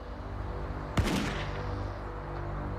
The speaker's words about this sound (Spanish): Entonces, temprano el 20 de mayo de 1988, un disparo rompió el silencio de la mañana.